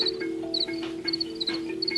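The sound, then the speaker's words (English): Crickets at a farm chirp in short, high, repeated bursts over a steady lower hum, with the chirps coming in an uneven rhythm against a continuous droning background. “The interesting thing about sound is that it gives us a more dimensional understanding of the world of the cricket.”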